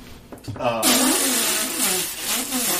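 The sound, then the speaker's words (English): Someone vocally imitates a farting, deflating balloon: a loud, buzzy, sputtering raspberry with a wobbling pitch that runs continuously for about two seconds after a brief breathy start. “Give me a farting balloon noise, somebody.”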